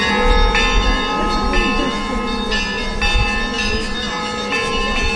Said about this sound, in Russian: А церковные колокола возвещают всем верующим о счастливом Вознесении Господнем.